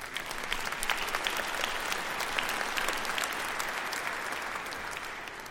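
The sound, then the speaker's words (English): A crowd breaks into steady applause, many hands clapping at once in a dense, even patter that holds at moderate loudness for several seconds without any voices over it. “Yes, you may clap if you agree.”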